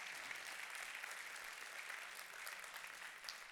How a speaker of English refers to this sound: Come on, take 5 seconds here and applaud the Lord. Come on.